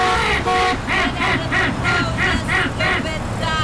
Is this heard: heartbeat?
no